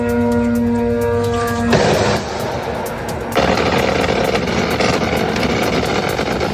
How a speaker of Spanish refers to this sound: Esto que escuchas son las defensas antiaéreas tratando de derribar esos drones iraníes.